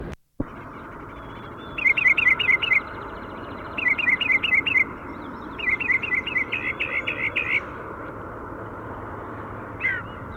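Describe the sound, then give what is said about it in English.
Wild birds call on Price Mountain, where they were bathing on a road, in three bursts of quick, high chirps, five to eight notes each, over a steady background hiss, with a lone faint chirp at the end. “We're on Price Mountain and we found the birds bathing on the road, pointing at the female.”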